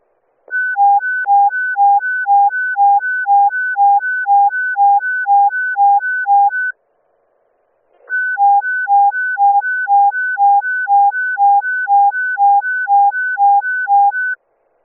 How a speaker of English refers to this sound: We're going to pull this thing out, regroup. Command to Charles, sound the evacuation alarm.